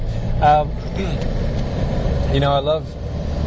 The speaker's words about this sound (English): I greet you from the rush hour traffic of Sri Lanka.